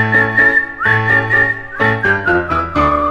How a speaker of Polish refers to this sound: a chociaż go trafi kulek nawet 300, maszeruje dalej i tak sobie śwista.